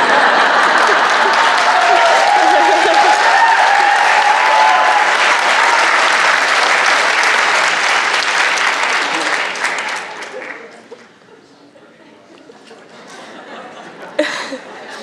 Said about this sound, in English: It feels good to hear the audience applaud.